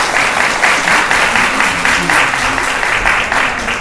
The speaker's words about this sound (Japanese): ありがとうございました。皆さん、今一度大きな拍手を送りください。